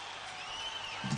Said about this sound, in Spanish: Mira, te aplauden. Qué de gente. Wow.